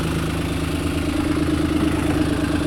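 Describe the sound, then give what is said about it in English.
A boat's diesel engine idles, not in gear, with a leaking exhaust elbow, a steady low rumble with a faint rhythmic chuffing that holds constant and loud throughout, with no voices. “It's the exhaust elbow is leaking.”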